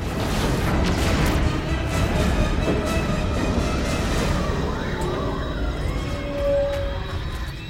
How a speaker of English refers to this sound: Inside, members of the crew are caught up in the explosions as a ball of flame races down the corridor they're in. The ship lurches a few more degrees to port until it sits upside down in the water.